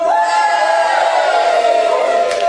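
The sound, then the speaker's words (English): A group of voices acts out a passing crowd cheering, a loud sustained collective shout that holds steady for a couple of seconds, energetic with no clear words. “So firstly, the crowd.”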